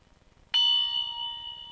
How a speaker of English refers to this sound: Bell? What bell? Bell? What bell?